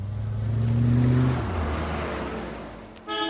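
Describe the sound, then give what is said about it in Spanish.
A car pulls up: its engine hums loudly, a low rumble rising then dropping as it slows and settles, followed by a brief whir and a faint high tone near the end. “Las pocas veces que viene a verlos lo hace en un carro de moda.”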